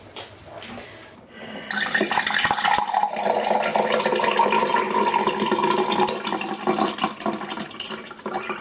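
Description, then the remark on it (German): Iced tea is poured steadily into a glass, a loud continuous splashing gush that begins abruptly after a quieter moment and holds for several seconds before easing slightly at the end. “Ich habe das perfekt eingegossen.”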